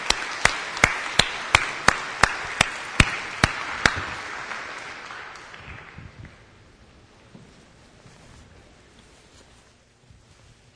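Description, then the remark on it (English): A crowd applauds to thank the members of a task force, with a steady, evenly spaced run of sharp claps standing out for the first few seconds before the clapping thins and fades into near silence. “They didn't do it for applause, but let's thank the members of the task force.”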